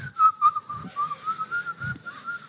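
A person whistles a continuous, wavering melody at a steady medium pitch, clear, with a few soft low thumps underneath and no talking.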